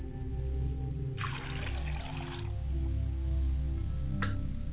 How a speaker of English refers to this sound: I pour water, a glass of water, for my father's side of the family.